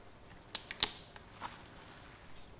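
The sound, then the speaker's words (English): Saran plastic wrap is pulled and handled, giving a quick burst of three or four sharp, crinkly crackles, then one softer rustle a moment later against a quiet background. “So you actually have to put this into a paste here and get the saran wrap.”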